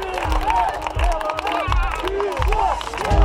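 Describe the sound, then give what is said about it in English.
A crowd of people at a rally in Belarus claps steadily while standing on a street sidewalk, the dense patter of many hands mixing with murmuring and raised voices, low rumbling thumps underneath, loud throughout. “They're standing on sidewalks, clapping.”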